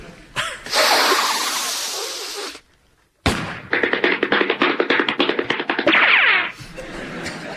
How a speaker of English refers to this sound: Well, it's the sniffing at the beginning that gives it away. Is it the disgraced athlete Ben Johnson coming out of retirement to reclaim the land speed record?